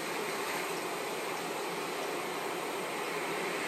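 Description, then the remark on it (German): A steady, soft rush of gentle waves on a calm sea, an even hiss of water with no distinct wave breaks, continuing unchanged throughout with no voices. “Höre dem Rauschen des Meeres zu.”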